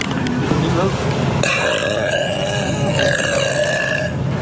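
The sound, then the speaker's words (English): A woman lets out a loud burp that stretches on for several seconds, a long rumbling belch with no other talking around it. “I bet you wish you can buy all the products that I just burped on, huh?”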